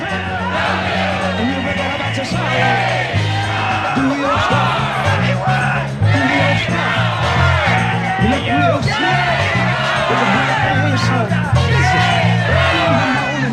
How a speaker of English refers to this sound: Homes for the homeless, food for the poor, gay rights, gay rights. Sylvia leads the crowd in a chant.